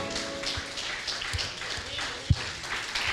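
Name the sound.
audience applauding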